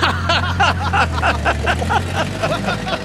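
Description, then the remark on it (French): An early automobile engine putters, a steady low rumble under rapid, rhythmic chugging bursts that keep a fairly even beat for a few seconds. “un nouveau moyen de transport absolument révolutionnaire, les voitures. Oh, vous savez ce modèle? Il fait tut tut.”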